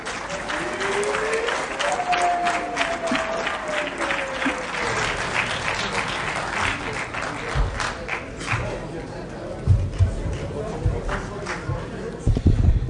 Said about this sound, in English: I will now invite the Honourable Fortune Charumbira to show gratitude to the House. Shall we receive him with a hand of applause?